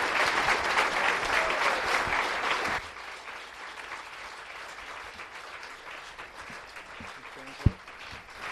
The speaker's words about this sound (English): You can welcome him and honor him with a big round of applause. Egy nagy tapsal fogadjuk őt.